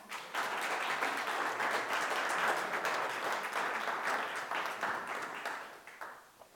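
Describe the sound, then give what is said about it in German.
Sustained applause from an audience, a dense wash of many hands clapping at steady loudness for several seconds before tapering off at the end, with no talking over it. “wir dürfen als Gemeinde auch mal vielen Dank sagen, dass du als Gemeindeleiter hier so viel Verantwortung übernimmst und ich denke, das tun wir mit einem kleinen Applaus.”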